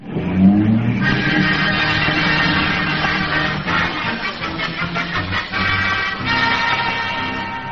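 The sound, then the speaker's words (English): A taxi roars away to catch a bus, its engine revving hard while tires squeal and skid across the road in a long, continuous screech that wavers as it goes. “Taxi, mister? Yeah, quick, taxi. Catch that bus.”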